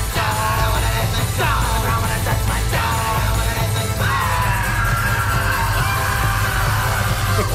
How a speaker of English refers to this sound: You're right, there is a lot of screaming. Down in the ground where the dead men go. Well, some of those screams sound more like roller coaster riders screaming.